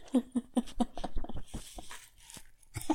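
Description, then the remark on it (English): A dog gives a quick series of four snuffly sniffs, followed by wet, crunchy chewing and gnawing on the microphone, loud and intimate, with brief scratchy rustles near the end. “As she's eating my microphone. Okay. That was her opinion on Halloween. A couple of sniffs and a crunch.”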